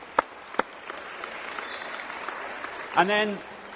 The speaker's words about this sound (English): And then I just would like the people that have been involved in the transitional leadership team, could you just stand up and we just see who you are? Don't be shy. You can applaud these people. They all put an enormous amount of time and energy in.